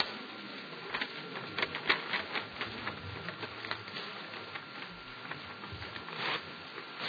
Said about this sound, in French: Vous allez plier la feuille comme ceci. Vous prenez un coin et vous la pliez de façon à ce que le bord revienne exactement sur le bout de la feuille.